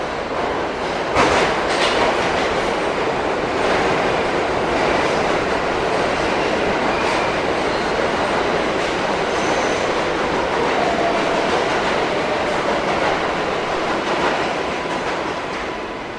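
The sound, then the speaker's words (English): A subway train roars in steadily for the whole stretch, loud, with a dense rumble of wheels on track and faint metallic squeals as it pulls into the station. “Here's our train.”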